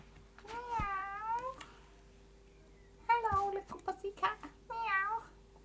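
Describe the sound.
A person pretending to be a cat meows: a few drawn-out, wavering meows with short pauses between them, loud, with a faint steady hum in the background.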